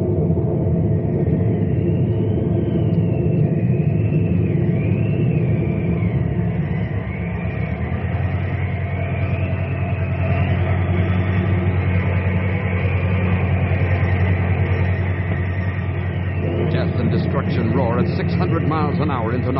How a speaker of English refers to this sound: Now the twister's running along the riverbank and heading out of town.